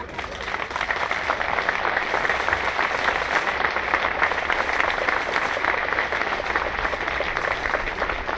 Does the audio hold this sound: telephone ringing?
no